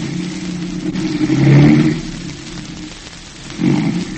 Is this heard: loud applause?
no